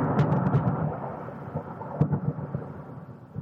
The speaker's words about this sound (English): Wow, it's thundering and lightning in Denver.